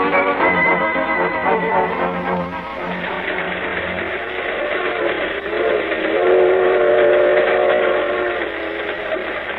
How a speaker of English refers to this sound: When's this here freight train get to Des Moines? This is a highball freight, kid. She's been hitting high iron ever since we jumped aboard at Kansas City. We're in the outskirts of Des Moines now.